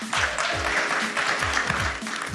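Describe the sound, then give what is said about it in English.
An audience claps for two panel guests who flew in for the event, a steady, dense, sustained wash of many hands with no pauses, fairly loud throughout. “So just a round of applause for them making the time.”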